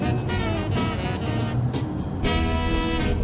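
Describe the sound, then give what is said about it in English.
A lorry's engine roars as it passes a car going the other way on a narrow country road, a steady loud rumble with a droning tone that swells twice. “A lorry passes him going the other way.”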